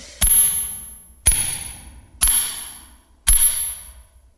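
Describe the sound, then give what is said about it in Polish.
Four sharp, ringing metallic clangs of a hammer hitting a fake iron nut, evenly spaced about a second apart, each with a bright lingering ring that fades before the next blow. “Zaraz mu pokażę, jak się tłucze orzechy.”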